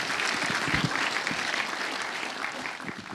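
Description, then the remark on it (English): A steady burst of audience applause for an audience member wearing the first Christmas jumper of the season, many hands clapping in a dense, continuous wash that holds fairly loud for a few seconds before easing slightly at the end. “Round of applause for the first Christmas jumper of the season.”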